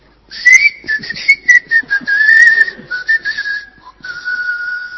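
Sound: whistling through the teeth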